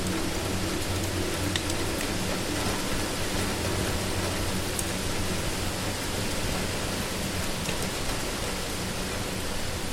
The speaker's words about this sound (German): Das Knistern des Feuers und das gleichmäßige Trommeln des Regens auf dem Dach erzeugen eine beruhigende Melodie, die alle Anspannung des Tages von dir abfallen lässt.